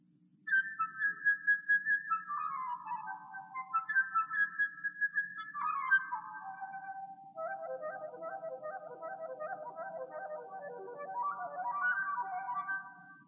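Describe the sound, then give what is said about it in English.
A flute imitates birdsong with rapid fluttering trills and chirps, swooping down in pitch and rising again in quick warbling runs. It plays steadily and clearly for about twelve seconds, with no talking. “And by using a flute, it's very possible to imitate a bird.”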